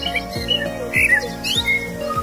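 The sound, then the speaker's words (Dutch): Birds chirping with scattered short, bright calls and squawks over a low humming, rhythmically pulsing tonal background of music. No one speaks. “Als de muziek verdwijnt en u de vogeltjes weer hoort fluiten, kunt u de podcast op pauze drukken en uw route vervolgen tot aan de volgende stop.”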